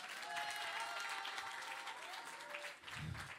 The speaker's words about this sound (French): Est-ce que vous pouvez vous applaudir une dernière fois avant que je me barre? Applaudissez-vous fort, plus fort que ça, vous méritez plus que ça.